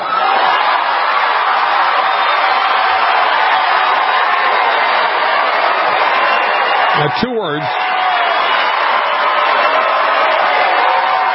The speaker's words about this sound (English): And listen to that crowd. Standing ovation. On their feet. Going gaga.